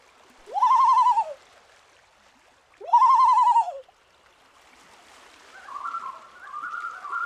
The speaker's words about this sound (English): The other sound that the loon is making is called the wail. It sounds almost like the howl of a wolf. We often hear those sounds at night when a loon is trying to locate a separated mate or other family member.